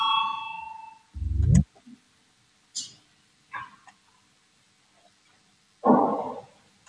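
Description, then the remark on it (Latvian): A sustained electronic bell chime rings in a parliament to call a vote on a proposal, then fades into a rising swoosh and a few scattered clicks and short bursts of noise, with no one speaking. “Lūdzu zvanu, balsosim par 194. Deputāta Valainis priekšlikumu.”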